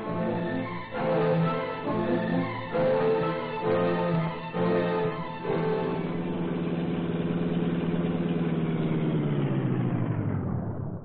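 A car engine roars loud, surging in rhythmic bursts at first, then settling into a steady driving drone that winds down at the end. No voices.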